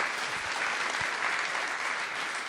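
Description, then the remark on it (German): An audience at an evening event claps steadily to welcome a speaker from the refugee support campaign Support Refugees. It is a dense, even wash of many hands with no pauses and no voices, holding a constant loudness throughout. “Einen Applaus bitte.”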